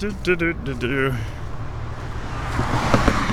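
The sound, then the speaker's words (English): Road traffic hisses steadily on a street, with a car whooshing past and growing louder near the end, after a brief voice speaking at the start. “You can hear the cars go zipping by.”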